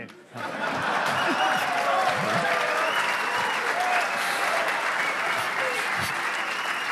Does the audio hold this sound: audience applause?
yes